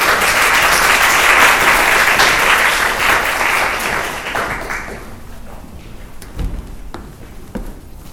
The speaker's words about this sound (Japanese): どうぞお越しください。拍手をお迎えください。